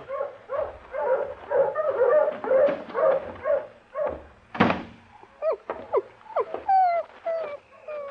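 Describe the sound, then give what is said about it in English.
A litter of seven newborn puppies of the dog Bonnie Blue whimpers and yips nonstop in a shed, their thin, high cries overlapping, with a single dull thump partway through and no voices. “Look at them little old pups.”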